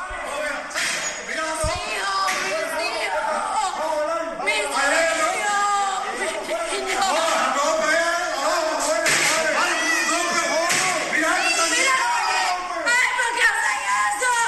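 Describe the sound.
A woman screams while children cry, their high, strained voices overlapping in a loud, continuous, chaotic stretch, with other agitated voices mixed in, at a family home on Campiña street in Cárdenas as uniformed officers bang on the front door trying to break in.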